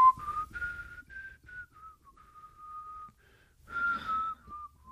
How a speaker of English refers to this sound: The examiner probably wouldn't whistle in an irritating, impatient, la, la, la, using the whole minute.